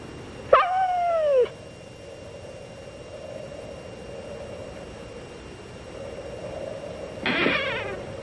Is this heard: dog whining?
yes